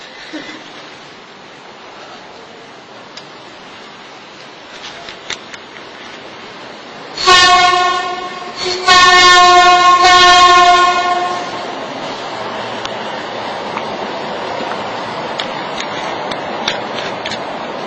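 A train rumbles past steadily, and its horn sounds twice, a short blast followed by a longer, loud one, before the rolling noise continues on its own.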